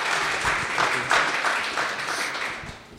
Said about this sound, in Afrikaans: Ja, so ons maak ons harte oop en ja, kom ons verwelkom hulle met sommer lekker hande klap